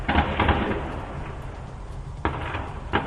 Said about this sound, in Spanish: En los últimos minutos se han vuelto a escuchar disparos en las calles en un combate que se convierte en urbano.